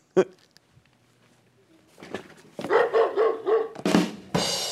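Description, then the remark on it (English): A dog barks several times in quick succession, loud, after a sharp opening sound, ending with a burst of rough noise. “Also on Thursday, there's Petco, and that's the aptly tickered woof.”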